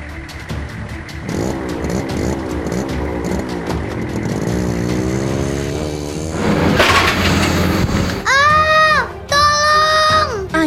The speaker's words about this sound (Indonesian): Ketika ayah sedang masuk ke dalam rumah, diam-diam Vina berjalan mendekati sepeda motor yang mesinnya masih menyala. Vina naik sepeda motor itu. Vina memainkan gas pada setang kemudi.